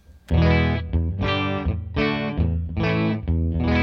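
Electric guitar through an Eagle compressor pedal, with the buffer off and the clean blend set all the way clean, strumming four bright, sustained chords in a steady rhythm at an even, loud level, with no one talking.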